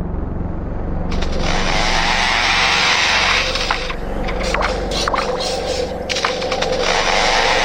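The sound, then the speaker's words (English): A lyrebird mimics a chainsaw: a loud, continuous buzzing whine with a low droning rumble beneath, broken midway by a few sharp clicks and stutters before the rasping roar resumes. “Isn't a chainsaw. It's a real recording of a lyrebird's chirp.”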